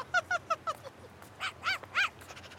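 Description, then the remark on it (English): A small dog, the puppy Tango from Sesame Street, yips: four quick, clipped barks in a row, then three longer, whinier barks, fairly loud over a quiet background, with no one talking. “Oh, and here comes my good friend Elmo and his puppy Tango.”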